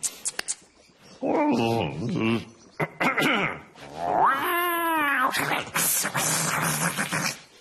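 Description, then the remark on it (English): Several cats meow and yowl in long, wavering cries, one stretching into a drawn-out caterwaul, with brief scuffling and noisy breaths between calls. “No, I've only got these lovely kitties.”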